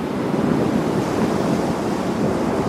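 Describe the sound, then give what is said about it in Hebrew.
Rough sea surf roars continuously with strong wind gusting over it during a big, dangerous storm at sea, waves tossing a ship in every direction: a loud, dense wash of crashing waves and howling air with no letup and no voices. “הגלים נענעו את האונייה לכל עבר. הייתה זו סערה גדולה ומסוכנת מאוד.”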